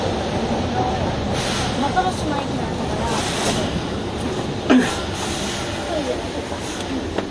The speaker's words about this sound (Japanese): 右側のドアが開きます。ご注意ください。